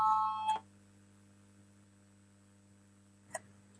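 parliament voting bell ringing

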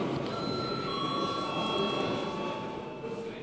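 parliament chamber bell ringing

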